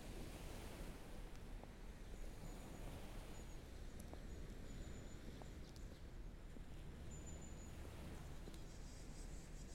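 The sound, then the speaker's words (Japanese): Steady roar of ocean surf washing in, a dense continuous wash of water noise with no clear breaks between waves, plus a few faint high chirps. No one speaks. “水平線へと続く銀色に輝く波はあの頃と何一つ変わらない。”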